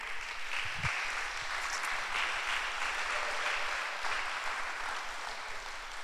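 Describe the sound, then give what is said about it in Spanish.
An audience applauds God, a steady dense wash of many hands clapping at even loudness for several seconds with no speech on top. “Damos un aplauso a Dios, por favor.”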